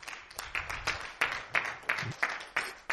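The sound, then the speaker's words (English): A church audience claps together for the Lord in a steady, rhythmic beat, the sharp slaps landing about three times a second, with a faint low rumble of voices underneath. “So give the Lord another clap and we're going to start in the.”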